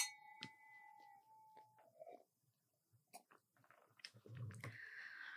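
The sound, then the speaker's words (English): Wine glasses holding Montepulciano d'Abruzzo, an Italian red, clink together once in a toast, leaving a clear, high ringing tone that fades over a couple of seconds, followed by scattered small clicks, a soft slurp and rustling, with no talking. “So still an Italian red. Yep. All right. Cheers.”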